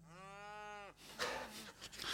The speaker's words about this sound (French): On est passé des chèvres aux vaches.